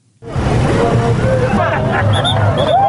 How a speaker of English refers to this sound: controlling the vehicle flow at Juba's 7 days roundabout one morning about 2 weeks ago.